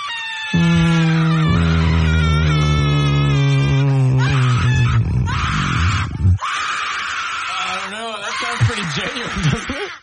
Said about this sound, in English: It's not actually someone screaming for help. Correct. Yeah. It's a Halloween sound effect.